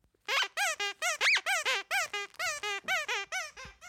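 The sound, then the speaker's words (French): A child's voice imitates a crying baby seal, a character in a story the children are telling, with a rapid series of about a dozen high, squeaky wailing cries, loud and rhythmic, each rising and falling in pitch, with no other talk. “D'abord, nous avons le bébé phoque qui pleure.”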